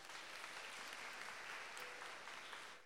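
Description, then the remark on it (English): An audience gives Jesus a big clap, a steady, dense burst of applause that holds evenly loud throughout and fades slightly at the end, with no voices standing out. “Can we give Jesus a big clap?”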